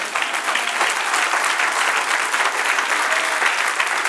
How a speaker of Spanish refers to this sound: Dale un aplauso, Señor.